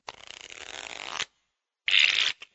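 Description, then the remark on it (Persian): A deck of playing cards is riffled in a rapid fluttering burst lasting about a second, then after a short pause comes a quicker bridge-and-square-up riffle and a final tap. Clear, with no talking. “فرض کنید یه نفر دسته کارت‌ها رو بر میزنه و اونها رو بین 4 بازیکن تقسیم میکنه، به طوری که 13 کارت گیر هر بازیکن میاد.”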